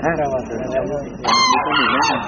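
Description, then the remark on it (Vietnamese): Loud, harsh crane calls ring out at the Việt Nam Phật Quốc Tự temple in Lumbini, where cranes nest, in a quick series of yelping, harmonic cries that rise and fall in pitch, growing stronger partway through. “Ở như đầu Phật, quý vị đang nghe cái tiếng chim này, chim hạc á.”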